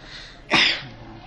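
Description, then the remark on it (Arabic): A single sharp sneeze bursts out, loud and brief with a hissy, breathy spray, against a quiet background with no talking. “رحمك الله”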